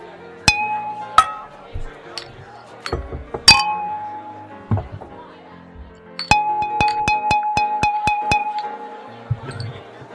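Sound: glasses clinking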